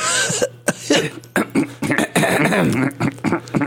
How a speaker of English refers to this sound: Frog in her throat. So Melanie Griffith in the movie Working Girl coughs a lot. She coughs a lot.